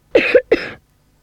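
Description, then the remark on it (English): Two quick, harsh, loud coughs in close succession, with a brief pause between them and silence afterward. “You need liquids for your cough.”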